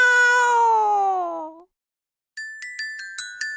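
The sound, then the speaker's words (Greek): A single long meow from a cat being chased away slides downward in pitch and fades. After a brief silence, a quick run of five or six bright little bell dings follows. “Ο δρόμος είναι ελεύθερος και τα γατιά διωγμένα.”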